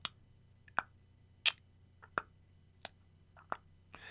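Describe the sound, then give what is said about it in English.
A clock ticks with sharp, hollow clicks at a steady pace, roughly six beats over a few seconds, fairly quiet amid stillness with no voices. “Neither spoke, but lay silently listening to the ticking of the clock.”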